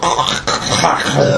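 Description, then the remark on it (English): A loud, raspy throat-hawking noise made by a voice, a harsh phlegmy rasp lasting just over a second with a brief catch partway through. “But I'm so sorry I did the phlegm something or other in”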